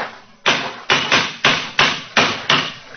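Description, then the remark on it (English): Seven loud, sharp knocks of a cane striking hard stone, coming in a quick, slightly uneven rhythm, each a hard crack that rings briefly before the next. “It's a hard knock.”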